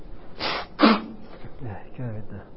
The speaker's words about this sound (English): Something in here is making me sneeze.